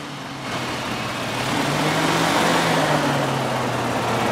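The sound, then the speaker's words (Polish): A small hovercraft of about 50 horsepower, weighing 250 kg and built to carry cargo, runs steadily with a loud, broad roar and a low droning hum that rises slightly in pitch partway through, with no talking. “To jest poduszkowiec, który ma niewielką moc, około 50 koni mechanicznych, waży 250 kg, jest przystosowany do transportu ładunków, tu widzimy akurat skrzynię, może transportować do 100 kg ładunku”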